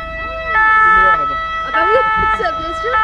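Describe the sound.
A loud two-tone ambulance siren alternates steadily between its high and low notes as children visit the ambulance and press the siren button, while voices chatter faintly underneath.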